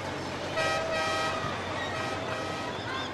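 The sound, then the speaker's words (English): A small park train's horn toots once at the McCormick-Stillman Railroad Park in Phoenix, a bright sustained honk lasting about a second, over steady outdoor rumble. Fainter horn tones linger briefly afterward, with no voices. “This is about the perfect time to be outside, be on the train for an extended period of time, and do those kind of rides so the kids don't get overheated.”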